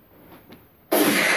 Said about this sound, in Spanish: ¿Escuchaste? Eso fue un balazo. A ver, hagamos uso de razón por un momento en nuestra mente. Creo que ese balazo no se puso por sí mismo. ¿Right? Alguien tuvo que haber dicho, hey, en esta música de alabanza tengo que poner un balazo.